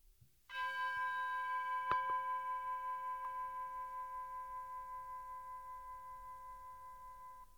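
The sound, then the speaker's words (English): A meditation chime signaling the beginning of a meditation is struck once and rings out clearly, its bright tone lingering in a long, gently pulsing sustain that slowly fades, with no one speaking. “You'll hear a chime to signal the beginning and the end of the meditation.”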